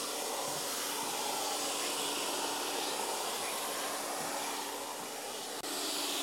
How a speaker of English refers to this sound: The next thing you need to do is vacuum out all the old dirt.